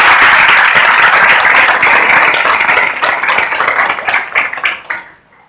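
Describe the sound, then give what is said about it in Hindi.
A crowd at a Diwali celebration claps loudly and steadily for the god Lakshmi, a dense wash of many hands that thins into scattered claps and fades out near the end. “तालियां बजाओ मेरे लक्ष्मी भगवान के लिए।”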